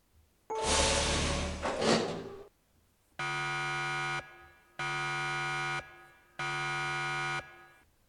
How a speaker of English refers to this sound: Ready, guys? Ready. Opening airlock door 2. Hang tight.